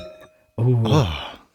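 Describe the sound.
Glasses of wine clink together as two people toast with wine, leaving a thin, bright ringing tone that hangs briefly before a person starts speaking loudly over the fading chime.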